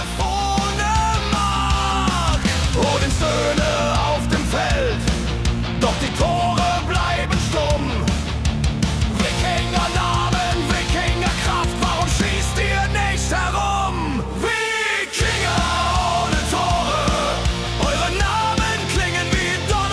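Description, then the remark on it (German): A loud Viking-style hard rock version of a song, with dense driving guitars, a heavy sustained low end and wavering sung vocals, pausing briefly for a moment before crashing back in. “da ist diesmal eine Wikinger-Hardrock-Version bei rausgekommen, die mir persönlich extrem gut gefällt”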